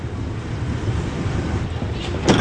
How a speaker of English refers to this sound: One, two, three, four, five cars. This is just a little ferry. There are big ferry boats that can carry 100 cars.